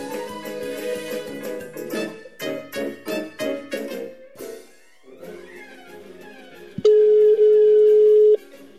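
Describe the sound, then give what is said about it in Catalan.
A telephone line tone sounds on an outgoing call from Ràdio Vila-real to a resident of Vila-real: a series of short pulsed tones followed by one long, steady electronic ring tone, clear and fairly loud, with no talking. “Anem a cridar-la per telèfon i a veure si els agarra el telèfon i li donem la sorpresa.”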